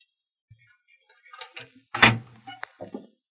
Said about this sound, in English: He'll unlock the door for you.